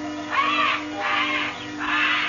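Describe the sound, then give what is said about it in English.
Three loud, harsh squawks from disturbed birds in a huge aviary at one corner of old man Kelso's house, evenly spaced over a couple of seconds, with a steady low hum underneath and no voices. “Something had disturbed the birds.”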